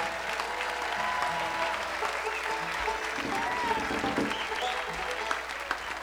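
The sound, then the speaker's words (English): A crowd at a music festival applauds the volunteers steadily for several seconds, a dense wash of clapping with some scattered voices and cheers mixed in. “There are hundreds of volunteers working hard for you, and they make it easy for the musicians, make it easy for the audience, and they deserve not only a great round of applause, but as you walk by them tonight, thank them for working so hard.”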